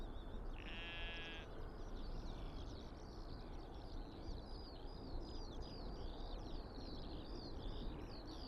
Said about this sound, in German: die Schafe blöken. Was meinst du, unterhalten sie sich?